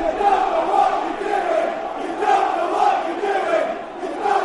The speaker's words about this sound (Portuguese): You don't know what you are doing. Não sabes o que estás a fazer. Não sabes o que estás a fazer. Era o grito dos adeptos do Chelsea.